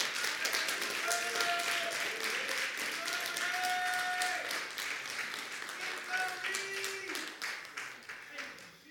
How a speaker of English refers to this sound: What we need to do today is praise him. Let us praise him right now. Everybody give him a hand clap.